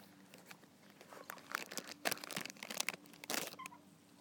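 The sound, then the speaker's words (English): Fairly quiet crunching and munching on a snack, with irregular crackly bursts and crinkly chewing noises spread across a few seconds, with nobody talking. “I'm sorry for being so impolite and munching on things.”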